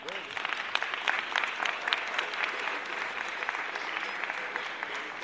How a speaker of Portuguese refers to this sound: Palmas aí